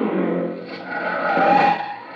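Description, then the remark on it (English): A car skids to a stop on a dusty road, tires squealing in a sustained, loud screech over engine rumble for about two seconds, with no one speaking. “First picture, bottom row, they stop their car.”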